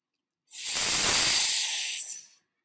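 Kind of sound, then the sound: sound effect, snake hissing sound effect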